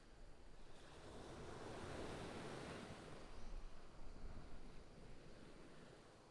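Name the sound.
waves on a beach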